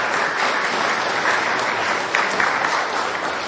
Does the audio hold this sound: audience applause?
yes